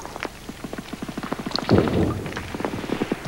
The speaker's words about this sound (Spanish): La lluvia aparece tímidamente golpeando en las hojas de los árboles. Las gotas aumentan formando círculos concéntricos sobre la superficie de un canal.